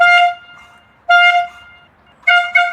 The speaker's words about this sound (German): Da muss er auf die Terrasse und da muss er einmal richtig tröten.